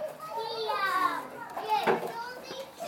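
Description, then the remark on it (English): Children at play with toys such as fire engine stations, castles, dolls' houses and garages, their high-pitched voices chattering and calling out over each other in a steady, lively stream with a few brief squeals, with no clear toy sounds standing out. “They're all playing with different toys.”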